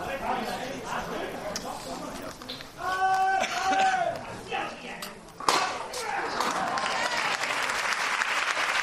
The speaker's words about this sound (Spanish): Y al cielo, cuando también aplaude la plaza del Altozano, que ya ve a lo lejos al Cristo. No cabe un alma en Pureza ni en esta plaza del Altozano, justo antes de cruzar el puente que le llevará hasta el centro de Sevilla.